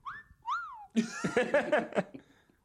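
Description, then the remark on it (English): Two quick slide whistle glides, the first climbing and the second swooping up then down, followed immediately by a burst of loud laughter. “Slide whistle.”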